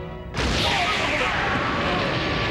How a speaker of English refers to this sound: An explosion blasts from the doorway, hurling everyone to the ground.